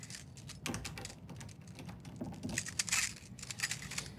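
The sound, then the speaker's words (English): Keys jingle and clink, followed by the metallic clicks and rattle of a key working the lock of an office door at the end of a hallway, a busy cluster of small sharp sounds with no talking. “So here, let me grab my keys.”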